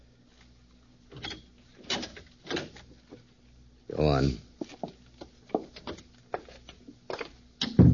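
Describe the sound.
An unlatched door is opened with a short, loud creaking groan midway through, surrounded by light clicks and handling noises, while a man speaks briefly.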